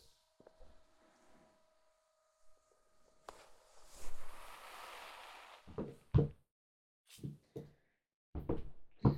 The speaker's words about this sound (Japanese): はい、マッサージ終わり。次はシャンプーだから椅子を倒します。